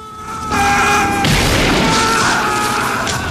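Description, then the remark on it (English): A gunshot rings out as Mike shoots Chucky, who launches himself at him with a knife: a sudden loud blast, followed by a couple of seconds of harsh, noisy rumble with a steady ringing tone running through it. No one speaks. “Chucky launches himself at Mike with the knife and Mike shoots him.”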